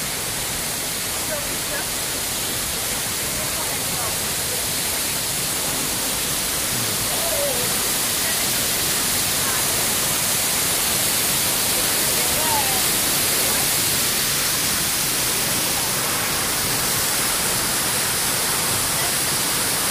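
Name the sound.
rushing waterfall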